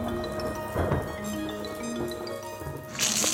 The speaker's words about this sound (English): What does it look like I'm doing? Washing the car on the grass.